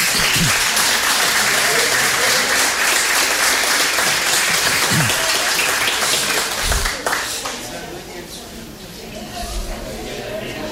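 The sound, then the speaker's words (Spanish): A crowd applauds a woman at a document handover ceremony, a dense wash of many hands clapping that holds loud for several seconds, then thins and softens toward the end with some murmuring voices underneath. “Ahí está la señora, un aplauso para ella.”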